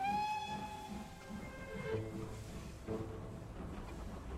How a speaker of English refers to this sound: The wooden panels, the plush seats, and the rhythmic sway. It's beautiful, isn't it? I love these old steam trains.